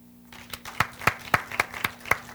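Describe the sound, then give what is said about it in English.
An audience claps in response to being asked who has ever waited tables: steady, evenly spaced clapping, around nine sharp claps in a quick regular rhythm at moderate loudness, with a faint low hum beneath and no talking. “How many, and you got to clap because I can't see you. Clap if you ever waited tables.”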